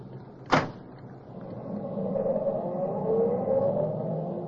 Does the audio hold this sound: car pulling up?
yes